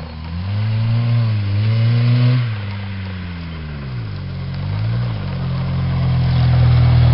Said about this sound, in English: Oh, the car got a little warm, did it? Too much revving.